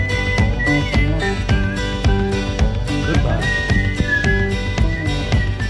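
A whistled melody glides over a full band backing with steady drums and bass, the tune clear and prominent in a played music recording, with no talking.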